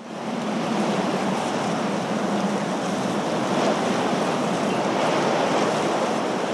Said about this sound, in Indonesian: Pada suatu malam yang tidak begitu gelap di sebuah pantai, seekor ibu penyu menyeret tubuhnya di atas hamparan pasir. Ia datang bersama suara ombak dan tepukan angin pada daun-daun kelapa.